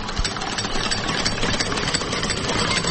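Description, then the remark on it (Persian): A car engine idles steadily for the whole stretch, a constant, fairly loud rumbling drone with no change in pace or pitch and no voices. “نام خدا خوب ماشین است، کمپنیش هم معتبر است.”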